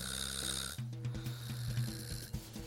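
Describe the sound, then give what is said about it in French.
Low, rumbling snores from people napping in a nap contest, a steady droning rattle with harmonic buzz and occasional soft clicks, continuous over a faint high hiss, with no talking. “Tout de suite, les yeux des candidats se ferment et les premiers ronflements se font entendre 10 secondes plus tard.”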